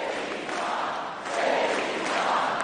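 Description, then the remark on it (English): A large crowd chants about JD's mom in unison, a dense, steady roar of many voices that swells louder about halfway through and stays strong to the end. “Now the crowd's chanting JD's.”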